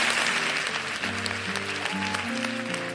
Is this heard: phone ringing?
no